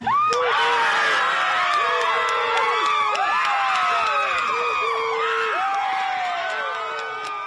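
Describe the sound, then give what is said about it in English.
A large crowd gathered at George Floyd Square in Minneapolis cheers and shouts continuously outdoors, celebrating the guilty verdict against former police officer Derek Chauvin, many voices whooping and yelling at once in a loud, sustained wave of celebration that stays strong throughout. “In Minneapolis, crowds gathered today at George Floyd Square to celebrate that verdict.”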